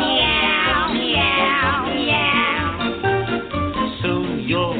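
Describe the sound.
Singing voices imitate a cat's meowing in drawn-out, wavering notes over loud, continuous upbeat music, the mock meows repeating throughout the song with no pause.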